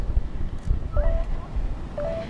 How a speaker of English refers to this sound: And then I can just click start, and it's going to start beeping. And every time it beeps, that's it taking a reading.